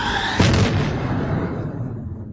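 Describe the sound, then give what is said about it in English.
The Millennium Falcon's engine roars to life as the ship takes flight, with a sudden, heavy low boom, then a broad rushing rumble that slowly fades and thins out over a couple of seconds. “With roar of engine, noise profound and grand, the great Millennium Falcon takes her flight.”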